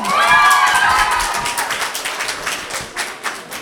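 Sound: audience applauding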